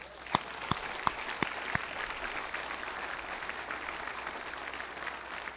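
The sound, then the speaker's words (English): An audience claps for Jesus at the end of a prayer: a few sharp, distinct claps ring out first, then blend into a steady, even wash of applause with no talking. “Can we clap for Jesus?”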